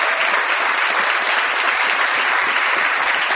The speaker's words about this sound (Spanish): Les agradezco mucho este aplauso, este interés y este cariño en un mundo y en un país donde no abundan. De manera que les agradezco mucho.